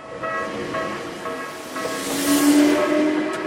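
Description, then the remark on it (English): A commuter train heading into Tokyo, Japan, rolls along the rails with a steady rumble and hiss, metallic whining tones riding over it, swelling slightly louder midway as it passes. No one speaks. “Those who still work take the train into Tokyo every day.”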